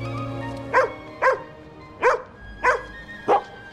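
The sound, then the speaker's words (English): An old English sheepdog barks five times in a steady, evenly spaced series, each bark loud, over a faint low background hum with no talking, as it comes face to face with another old English sheepdog on courthouse steps. “He and the other old English sheepdog come face to face.”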